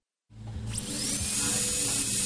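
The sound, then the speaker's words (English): A dentist's drill, used by a dental health aid therapist to prep a tooth, spins up with a rising high-pitched whine, then holds a steady, piercing tone over a low mechanical hum, fairly loud. “The unmistakable whine of a dentist drill.”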